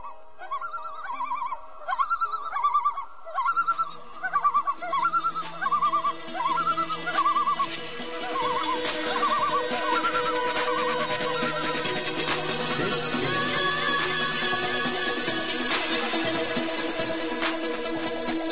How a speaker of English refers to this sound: If you hear this sound, called a tremolo, the birds are alarmed.